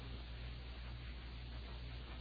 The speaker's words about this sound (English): The message ended with a soft burst of white noise.